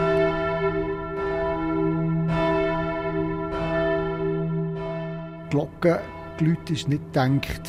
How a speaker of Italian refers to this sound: Le campane non sono pensate per emettere un suono aggressivo, anzi, il loro suono deve avere una certa delicatezza. Per ottenere quell'effetto, bisogna saperle guidare, lavorando sulla loro inclinazione.